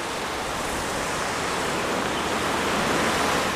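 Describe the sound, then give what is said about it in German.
A fountain splashes steadily in the middle of Helene-Weigel-Platz, a square in Berlin-Marzahn, Germany, its continuous rushing water at a moderate, even level with no voices or other distinct sounds. “Der Helene-Weigel-Platz in Berlin-Marzahn. In der Mitte plätschert ein Brunnen.”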